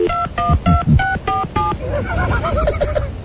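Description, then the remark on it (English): About six quick telephone keypad dialing tones beep in a steady, even rhythm, loud, as a phone number is dialed to call back, followed by a voice speaking over a faint line. “Call it back.”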